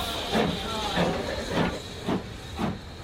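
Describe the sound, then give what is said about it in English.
Steady steam hiss from a Watercress Festival shuttle train, with rhythmic chuffing bursts about every half second as it sets off with passengers aboard, continuous across the whole stretch. “What noise is it going to make when it sets off?”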